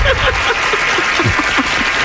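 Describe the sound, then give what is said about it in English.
Steady, dense clapping from a crowd, loud and sustained throughout with no pauses and no one talking over it. “Please clap.”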